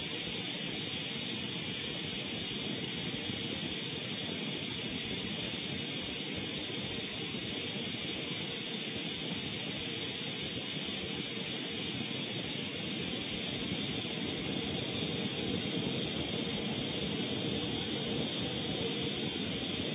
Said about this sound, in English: Please notice the water transfer from the lubricator into the application dryer and then into the air as it exits the blowgun.